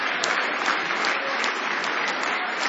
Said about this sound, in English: Let's give the Lord another hand clap of praise for the word.